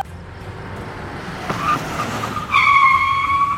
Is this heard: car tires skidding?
yes